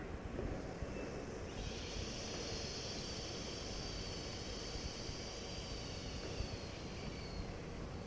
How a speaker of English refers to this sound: And the umbrella closes around the central axis, which is the rod of the umbrella, as you hiss. Into the hiss, let your arms drop. Hiss.